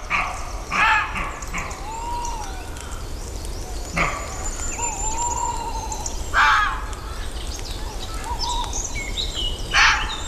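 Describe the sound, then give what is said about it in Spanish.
Soundscape of the beech forest (Hayedo) in Redes: birdsong with whistled phrases and chirps runs throughout, broken by several sharp, harsh fox barks in short bursts, with a roe deer and a tawny owl also heard, over a steady low background hiss. “Bueno, ahí está el Hayedo, el bosque, que está cantando, y el zorro, el corzo, ya no sé de quién es quién, se va para allá, y el zorro se queda ladrando, ¿no?”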